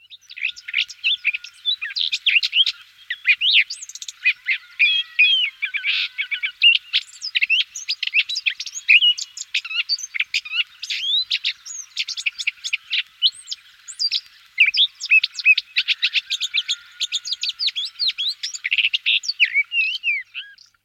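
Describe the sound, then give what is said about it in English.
A whitethroat sings a fast, scratchy jumble of high chirping notes, pouring out in dense bursts for the whole stretch with barely a pause and no voices. “Whitethroats generally sing from hedges with a lot of scratchy notes.”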